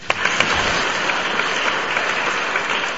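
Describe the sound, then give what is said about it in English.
Steady, dense applause from an audience for a visiting center director, a continuous wash of many hands clapping, with a few sharper individual claps standing out near the start. “And let us give a big clap for him.”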